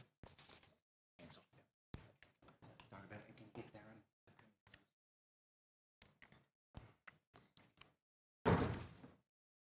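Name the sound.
door being shut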